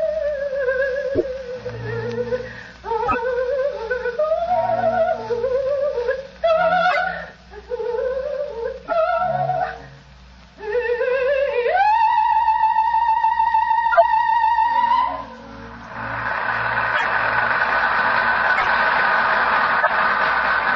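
A soprano sings a sweeping operatic melody with rich vibrato over soft accompaniment, rising to a long, loud sustained high note before giving way to a steady, hissing wash of sound.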